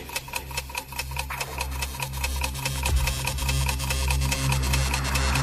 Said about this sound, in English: The clock is ticking.